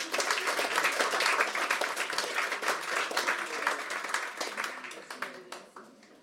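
A crowd applauds with dense, steady clapping that holds strong for several seconds, then thins out and fades toward the end.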